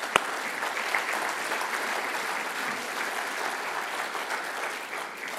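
A church audience applauds steadily as a man is called up to join the speaker, a dense, even wash of many hands clapping that holds at a moderate level for several seconds before easing slightly at the end.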